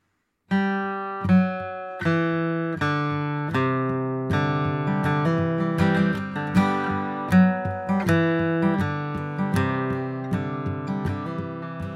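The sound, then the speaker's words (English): An instrumental song intro begins after a brief silence: rich, sustained chords struck in a steady, repeating rhythm, with bright harmonic tones over a fuller low end and no voices. “That's where that song came from.”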